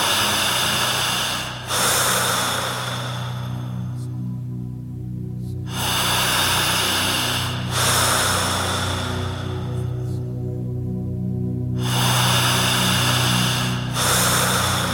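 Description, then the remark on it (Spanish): Slow, deep breathing: long broad noisy breaths repeating every few seconds, each followed by a quieter pause, over a steady low hum. No one speaks. “Concéntrese en esta respiración.”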